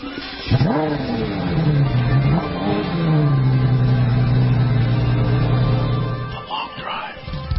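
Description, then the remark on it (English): The engine of a brand-new Mercedes-Benz E63 AMG sports sedan revs up sharply, dips and climbs again, then settles into a loud, steady, throaty drone for several seconds before cutting off, with no talking. “Mercedes' brand new E63 AMG is a velvet hammer, a luxury car with the heart of a sports car.”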